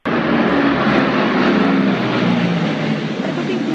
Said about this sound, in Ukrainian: Останні дні найсучасніші військові літаки з гуркотом розсікали кримське небо, лякаючи місцевих мешканців, яким до цього не доводилося бачити модернові моделі винищувачів у такій кількості і так близько до землі. У авіашоу було задіяно 70 літаків.